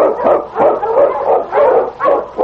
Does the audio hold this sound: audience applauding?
no